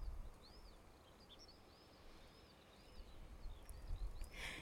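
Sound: birdsong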